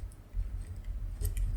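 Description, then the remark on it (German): A pen scratches across paper in a few short, dry strokes as someone writes a note, quiet, over a low background rumble, with no voices. “Das muss ich mir eigentlich auch mal aufschreiben. Hier, warte mal, falscher Stift hier.”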